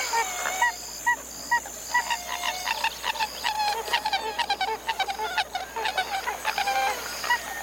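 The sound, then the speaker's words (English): A pied-billed grebe calls in a long, rhythmic series of hollow, honking notes, quickening into rapid bursts, with faint marsh background and no talking. “A pied-billed grebe.”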